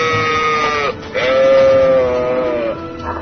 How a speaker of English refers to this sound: Is that a llama with a hammer? An alpaca. They rarely spit at people unless frightened or abused.